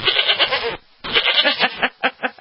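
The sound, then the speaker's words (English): A goat bleats loudly in a long, wavering cry, breaks off briefly, then lets out another drawn-out bleat that trails into a few shorter stuttering calls. “There's that goat.”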